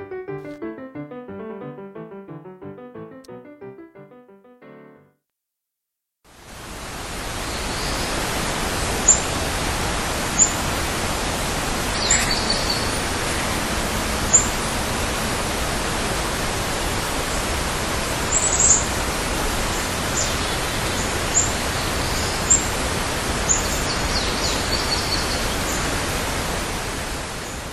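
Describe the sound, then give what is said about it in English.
Outdoor ambience outside a front door shortly after sunrise: a steady, dense wash of hiss-like noise dotted with brief, high chirps of birds, following a few seconds of soft tonal music and a short pause. “What you just heard is what I heard when I went outside my front door shortly after sunrise this morning.”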